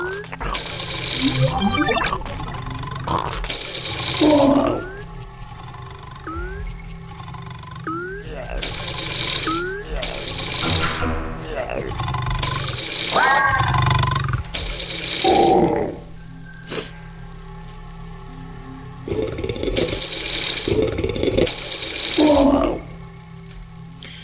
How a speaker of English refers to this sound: Oh, listen to that. Sounds very ominous in here. Actually, I'm surprised this place isn't really messed up because of all the water in here.